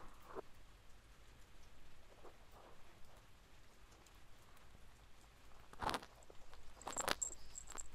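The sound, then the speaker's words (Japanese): Steady rain falls with a soft, continuous hiss, punctuated by a few louder, sharp drips or splashes near the end. No one speaks. “てかさ、明日も雨だっけ？”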